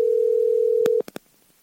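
A phone call rings out as one steady, low-pitched tone lasting about a second, then stops with a handful of quick clicks. No one speaks.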